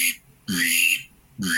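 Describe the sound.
A pintail duck whistle makes a drake mallard grunt: three short, fairly loud notes, each a reedy whistle with a low raspy undertone, separated by brief pauses.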